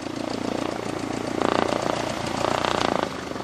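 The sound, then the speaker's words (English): A small training plane's propeller engine drones steadily as a student lands her first solo flight at Wings of Wyoming, a flight school a few blocks from Cheyenne Regional; its buzzing hum swells louder for a couple of stretches before easing off; no voices. “A few blocks from Cheyenne Regional is Wings of Wyoming, the local flight school where instructor Rod Burnett is watching a student land her first solo flight.”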